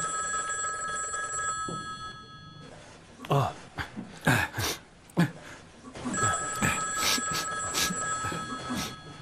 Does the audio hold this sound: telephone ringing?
yes